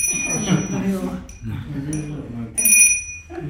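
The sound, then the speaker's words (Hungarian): A small bronze bell rings twice, bright, each strike leaving a clear shimmering tone that lingers and fades, while people talk over it. “Ja, az előző kérdésre, hogy van-e valamilyen utómunka egy megvásárolt haranggal?”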